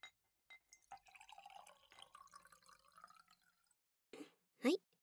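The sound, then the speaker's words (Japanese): Liquid from a leftover bottle pours steadily into a glass in a bar for a couple of seconds, the gurgling tone rising as it fills, followed by two short knocks or clinks of glassware. “最後のお客様のボトル、余っちゃった分、キープできないからみんなで飲んでって言われてましたし、もったいないから、二人で開けちゃいましょうか。”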